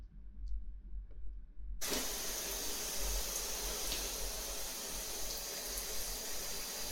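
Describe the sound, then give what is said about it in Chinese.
A shower is switched on after a quiet stretch with a low hum, and a steady, hissing spray of water set to 40 degrees pours without pause until the end. “来，我帮先生开水了，现在的温度是40度，刚好合适。”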